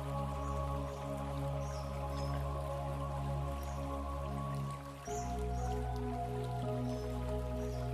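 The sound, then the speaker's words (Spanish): Gentle trickling water of a babbling stream runs steadily for the whole stretch, with soft drip-like sparkles on top, layered over a sustained, humming tonal drone that shifts slightly partway through; no one speaks. “Siente cómo las preocupaciones o cualquier otro pensamiento es arrastrado por la corriente alegre del arroyo.”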